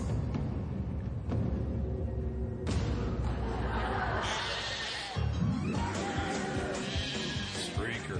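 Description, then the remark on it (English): Sheep bleat repeatedly, their wavering cries rising over a dense, busy background of chatter and noise that continues throughout, loud. “Well, sometimes, and I mean, this is on a more serious note, sometimes sheep revisit those habits. And so watch this next YouTube.”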